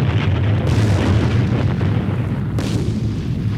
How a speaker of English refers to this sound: No one knew what fire from heaven would sound like. So what I had to do next was build the sound effect from scratch. So I started with some roaring fire. And then I added some whoosh sounds. And a few explosions.